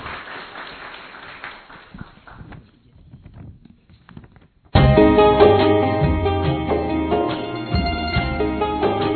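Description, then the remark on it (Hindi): A crowd claps loudly and steadily for a guest who came up from Shantivan, the applause thinning and fading over several seconds before a burst of music abruptly starts and carries on at full volume. “और देखिए खास आपकी सेवा के लिए खास शांतिवन से ऊपर आए हैं, इसलिए जोरदार तालियां बजाइए।”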